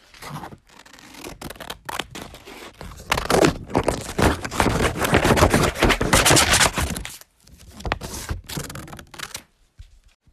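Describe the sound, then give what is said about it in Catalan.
Paper being cut with scissors, a busy run of crisp snipping and rustling crackles that swells loud in the middle, pauses, then returns in a shorter burst before fading out. “Hier Paper Cuts.”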